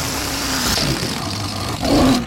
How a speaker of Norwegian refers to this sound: Det der var... Litt sånn potent på slutten der. Ja, det var heftig. Altså, det var på sin plass å skygge litt unna når det her ballongdyret ble sluppet lufta ut av.